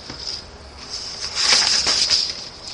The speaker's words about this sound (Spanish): La paloma se dio cuenta entonces de la presencia del cazador y alzó rápidamente el vuelo para alejarse de allí.